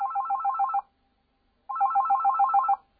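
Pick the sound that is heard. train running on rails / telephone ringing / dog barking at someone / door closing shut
telephone ringing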